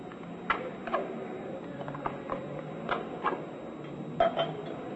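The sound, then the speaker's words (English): Beer is poured from a can into a glass, a soft steady fizzing pour broken by a few light clinks and taps of glass and metal. “Never could drink it out of a can. Seems to taste better in a glass.”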